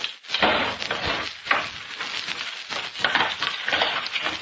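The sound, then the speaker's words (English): Boards of a wooden box, held by a single nail at each end, are wrenched open, with several seconds of continuous creaking, scraping and splintering wood and a few sharper cracks as nails pull loose. No one speaks. “No, I'll open it. There's only a single nail at each end holding the boards.”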